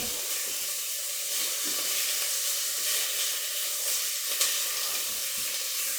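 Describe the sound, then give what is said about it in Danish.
Pork belly sizzles steadily as it is fried in a pot, a dense crackling hiss that stays constant throughout, with a few brief pops and no voices. “det jeg gør, det er, at jeg steger flæsket i en gryde. Måske kan man høre det syde. Det skal syde i min gryde.”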